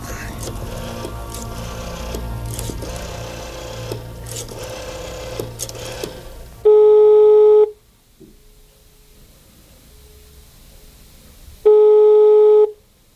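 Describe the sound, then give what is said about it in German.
A telephone handset is lifted and a number dialed to call headquarters, with clattering mechanical clicks, then two long electronic ring tones sound several seconds apart over a quiet line hiss. “Zielstrebig griff der erste Detektiv nach dem Telefonhörer und rief in der Zentrale an.”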